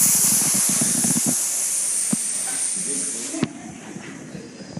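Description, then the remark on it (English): A long, steady, fairly loud hiss of breath pushed out through pursed lips in a 'snake lips' exhale during a yoga flow, moving back to chaturanga, lasting several seconds before cutting off sharply, followed by faint rustling movement. “And then you're going to snake lips it all the way back to chaturanga.”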